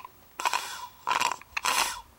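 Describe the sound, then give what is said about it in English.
Three wet, gurgling slurps of water through a straw, made on purpose as a beat, each a short airy burst with a brief pause between, spaced evenly enough to form a rough rhythmic beat. No one speaks. “they make those beats out of the slurping straw sound”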